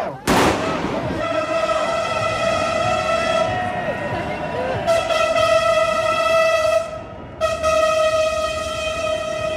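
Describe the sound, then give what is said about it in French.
A metro train driver sounds the horn in support of a street protest for fiscal revolution in Paris. The horn blares loudly in long, sustained blasts, briefly pausing twice, over the steady murmur of the demonstrating crowd, with a sharp burst of noise at the start. “Un petit soutien du machiniste du métro, oui.”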